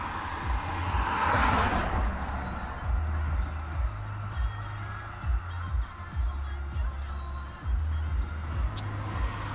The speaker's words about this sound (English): It's about getting on for 9:30 at night. We're somewhere in Bromley Common. Don't know if they're going to start up again. Thank you, traffic.